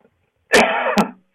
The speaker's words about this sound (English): That doesn't mean anything, you know. Really, people have been coughing for decades, centuries. Just because somebody coughs doesn't mean they have the COVID.